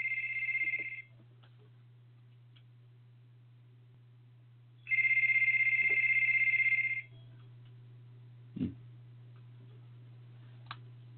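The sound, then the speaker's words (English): A telephone rings in two bursts, a short one and then a longer trill, loud and high-pitched, over a steady low hum. No one speaks; a faint click follows. “I got a phone call there. I'm sorry for that little disturbance in the background.”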